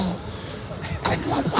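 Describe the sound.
A woman's voice imitates a donkey's bray on the Basque television channel ETV: after a brief lull, a few rough, strained vocal bursts rise and fall in pitch, moderately loud.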